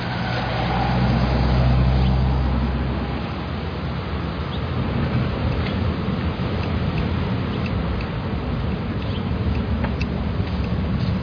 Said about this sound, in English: Why'd you do that? Car was coming.